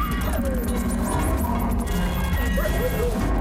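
A wolf pack howls together, pups adding high, wavering yips and whines that rise and fall over one another in a steady, tangled chorus lasting the whole few seconds.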